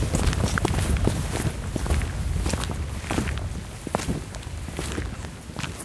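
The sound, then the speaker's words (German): Tap shoes clack sharply against a hard floor in a steady run of bright, clicking steps, the taps landing at an uneven walking rhythm with no voices over them. “Hast du Steppschuhe an? Ja, ich wollte ein bisschen steppen eigentlich.”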